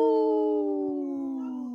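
A single long, steady howl that holds one drawn-out note and slowly slides lower in pitch, fairly loud, with no talking over it.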